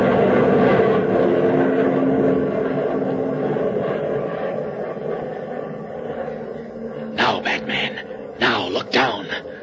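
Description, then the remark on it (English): A loud, droning airplane engine roar fills the air overhead as the plane passes directly over a mill, steady at first and then slowly fading as it passes, with a few brief voices breaking in near the end. “It's going to pass directly over the mill”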